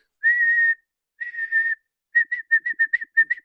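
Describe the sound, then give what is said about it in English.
A voice imitates a blown whistle: two long shrill tones, then a quick run of about nine short chirping bursts, fairly loud with no talking over it. “Like someone whistling a whistle comes up behind me.”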